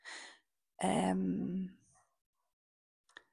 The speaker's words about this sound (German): Da fangen auch direkt die Hunde an zu bellen, wenn es donnert.